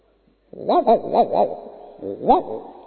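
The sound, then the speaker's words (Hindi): A human voice mimics a small dog's yapping: a quick run of about four high, arching barks, a brief pause, then one or two more, loud. “कुत्ता, छोटा कुत्ता।”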